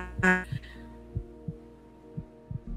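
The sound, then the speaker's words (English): Muffled, low heartbeat thumps of an unborn child, heard at a clinic, pulse steadily in pairs against a soft background hum, with a brief brighter tonal burst near the start. “That heartbeat was everything to me.”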